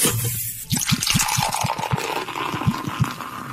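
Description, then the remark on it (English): Beer glugs out of a bottle into a glass in a quick, steady series of gurgling pulses over a bright, fizzy hiss, fairly loud, with no talking. “Well, I'm going to have to, actually, because it is pouring a beer.”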